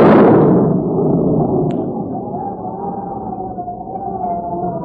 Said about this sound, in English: Is that possibly be thunder? It Sure sounds like a storm coming up